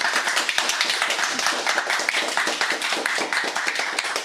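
A studio audience at a Radio Dreieckland studio concert claps steadily, many hands producing a dense, continuous patter of applause at moderate volume, with no one speaking.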